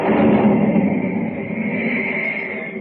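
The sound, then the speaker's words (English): A crashing boom of thunder, following jagged lightning in a storm over dark, turbulent sea in a Superman radio story, rolls as a dense, steady roar for about three seconds, loud throughout and slightly easing toward the end, with no voices. “Jagged bolts of lightning rip across the blackened sky, followed by the crashing boom of thunder.”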